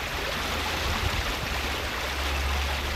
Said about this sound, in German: Wir folgen weiter dem Lauf des Maines, der nun als recht kleines Flüsschen dahin plätschert nach Kulmbach. Bis dahin, wo sich der Rote und der Weiße Main treffen.